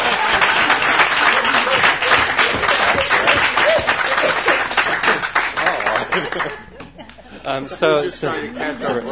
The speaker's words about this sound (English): So now the Pacifica Network, the Pacifica Radio Archives, is at that table to help make those decisions. That's worth a little applause.